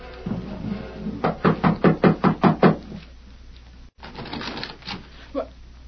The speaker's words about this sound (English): They walked up the steps to the porch and knocked on the door.